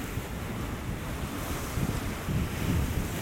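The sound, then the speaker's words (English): Sea waves surge and wash into a crevice in the rocks, swelling right up it about 9 to 10 feet and emptying back out, a steady roar with heavier low swells building near the end, mixed with wind buffeting the microphone. No one speaks. “It swells right up at the crevice and then empties back out again.”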